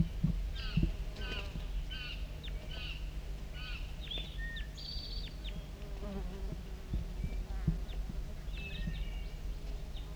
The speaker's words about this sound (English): We're recording close contact calls of a wild bird.